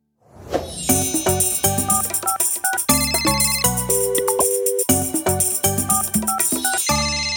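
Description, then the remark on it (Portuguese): A telephone rings with a bright, melodic ringtone: quick bursts of tonal notes repeat in a steady rhythm, loud and continuous for several seconds with no one speaking. “Atende aí!”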